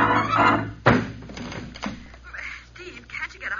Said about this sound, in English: I think they've smashed the hall door open.